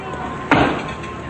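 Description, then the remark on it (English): A man slaps a table with his hand in delight: a single loud, sharp slap, a quick smack with a short fading tail, rising above a steady low background hum. “Frank slaps the table in delight.”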